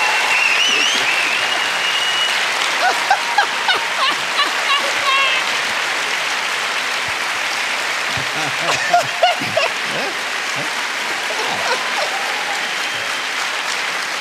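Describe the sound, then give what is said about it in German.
Sustained applause from a large crowd welcoming Klaus Wowereit fills the whole stretch, a dense steady clatter of many hands with occasional louder claps and faint voices underneath. “Herr Wobereit, ist Ihr Applaus.”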